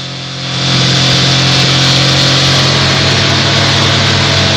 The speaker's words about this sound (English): The car suddenly speeds away, but then has to brake sharply on a bend, giving Frank the opportunity to overtake.